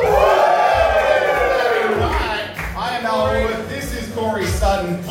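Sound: audience cheering and whooping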